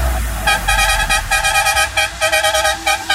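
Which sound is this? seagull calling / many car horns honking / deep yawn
many car horns honking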